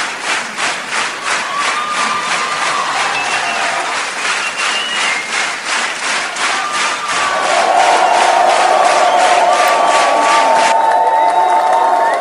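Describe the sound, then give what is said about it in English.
A large concert crowd in Sydney claps in a steady rhythmic beat while shouting and whistling for an encore, the roar swelling louder and more continuous toward the end. “I know you want more. The more noise you make, the more chance they'll get back out here.”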